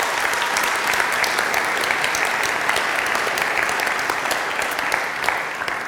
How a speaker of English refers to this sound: Let's give them a round of applause just to say thank you.